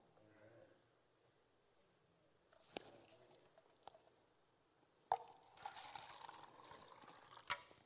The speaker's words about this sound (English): Now here's where the illustration kind of falls apart, because this jug is about to run out of water.